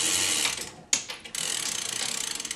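Rapid, steady ratchet clicking as the first chain of a weight-driven pendulum clock is pulled to wind it, a brief pause with a sharp click, then the fast rhythmic ticking resumes, moderately loud.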